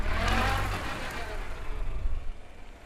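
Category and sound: vehicle, car engine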